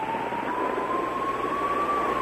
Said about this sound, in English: Well, I can tell you could probably hear the police siren there. I mean, they're very, very close to you, aren't they? Yeah, they're bellowing.